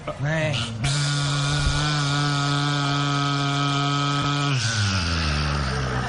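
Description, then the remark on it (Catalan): A steady, buzzing whine like a Black & Decker electric power drill runs for about four seconds, then winds down in pitch; it sounds like a voice imitating the drill. “Com fa el soroll de la Black & Decker?”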